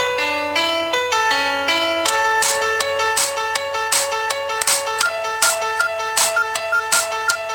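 A Nokia tune ringtone remix plays loudly and alone from an HTC Trophy Windows 7 phone: a bright synthesized melody of stepping tones over a steady low drone, with punchy percussive hits joining in on a regular beat.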